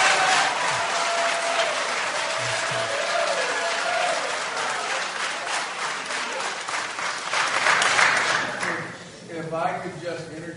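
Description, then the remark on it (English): Sustained applause from a large audience at a MOAA event, steady and loud for about nine seconds before tapering off, with a few voices calling out and a speaker beginning to talk near the end. “On behalf of the MOAA, I'd like to ask if we could maintain a sense of decorum that applause is certainly welcome, but please, please let's try to reduce or eliminate the verbal outbursts.”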